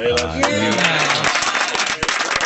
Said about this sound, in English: Are they clapping? Thank you.